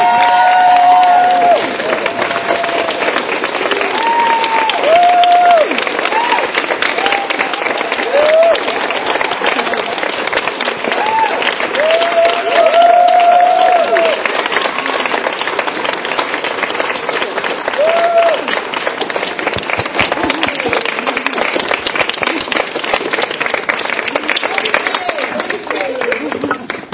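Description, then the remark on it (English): A crowd applauds steadily for the whole stretch, dense clapping mixed with whoops and cheers rising above it, loud and sustained without a break, as the audience stands and cheers for Kate Bornstein as she is introduced. “So ladies and gentlemen, may I please, please have you stand, cheer, shout out for the one and only, the gender outlaw, Kate Bornstein.”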